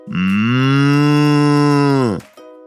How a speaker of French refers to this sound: Imagine qu'un matin, alors que t'es encore allongé dans ton lit, les yeux à moitié fermés, tu te fasses réveiller par une vache.